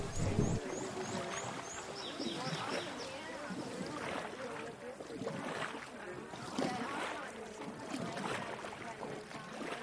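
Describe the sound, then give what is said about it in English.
A rafting boat moves through loud, rushing water with steady splashing and wind noise buffeting the microphone, while faint voices call out under the constant churn. “So zip up your life jacket and sit down in your rafting boat.”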